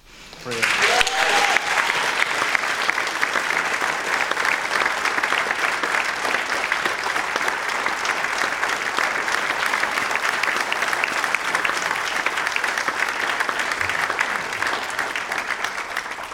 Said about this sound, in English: And I'm not sure, but I think that's possibly the longest and loudest round of applause that we've had after a testimony.